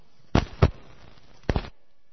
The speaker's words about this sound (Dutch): Kijk, water hebben we. Maar het moet nu nog in het doopvond. Dus dat water gaan we in het doopvond doen.